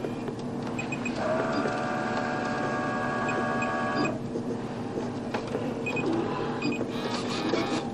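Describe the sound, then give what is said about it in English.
A small machine whirs steadily for a few seconds, with a mechanical tonal drone and faint clicks and beeps over a constant hum: an autorefractor at an eye exam taking pictures of a patient's eye to get their prescription. “I'm going to take some pictures of your eye to get your prescription.”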